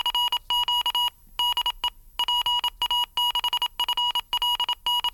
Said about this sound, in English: Now, you say that this Dr. QSO device is also aimed as a training aid. So does it also check that you're keying in the right sort of Morse characters? Yes, it certainly does. It has a mode which monitors the code as you send it out